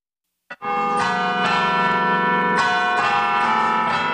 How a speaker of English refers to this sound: Sound of church bells in the evening brings a smile to every face